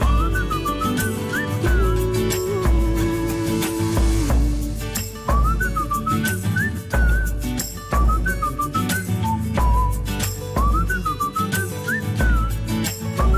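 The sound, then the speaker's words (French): A lively tune is whistled over an upbeat backing track with a steady drum beat and bass, the bright whistled melody sliding between notes and sitting clearly on top of the music. “Ça sifflote, ça se balade, c'est frais, c'est l'été.”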